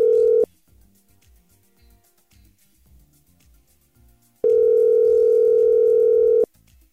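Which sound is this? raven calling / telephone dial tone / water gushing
telephone dial tone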